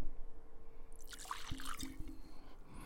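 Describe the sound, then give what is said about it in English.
Rowan's Creek whiskey pours into a glass with a brief gurgling trickle, a few soft liquid splashes and drips over a low hum, fairly quiet and lasting only a couple of seconds. “Well, that's a pretty generous pour.”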